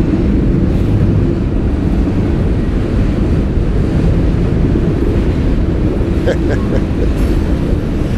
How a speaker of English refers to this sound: Train's right there, so it's gonna get loud.